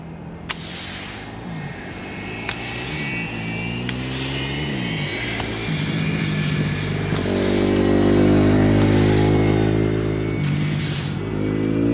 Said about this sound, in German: Ich glaube, ein Besen, ein Auto und ein Motorrad. Und ich glaube, der Besen passt nicht, weil das nicht fahren kann.